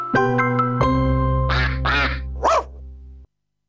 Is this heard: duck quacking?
yes